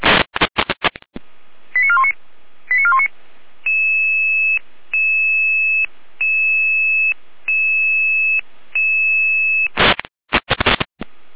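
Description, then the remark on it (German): A radio alerting tone sequence from the Jena dispatch center in Germany, alerting a crew to a call-out: bursts of static, a few quick warbling chirps, then a steady run of loud, evenly spaced electronic tone pulses, ending in another crackle of static. “Jena mit Alarmierung.”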